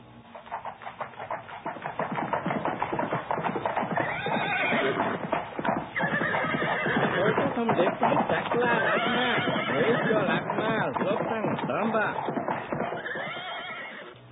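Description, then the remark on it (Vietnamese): A horse ridden by a rider gallops up to a monastery with steady, loud clip-clop hoofbeats, while it whinnies and neighs repeatedly over the rhythm. “Vài hôm sau, tôi và sư phụ đang ngồi trên thềm tu viện, thì một kỵ sĩ phóng ngựa chạy đến.”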